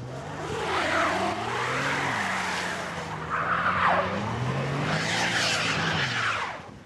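car engine revving

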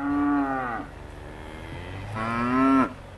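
cow mooing

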